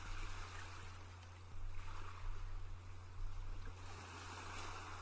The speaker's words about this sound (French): Vous contemplez devant vous la mer, tranquille, dont les vagues régulières viennent déposer leur écume non loin de vous.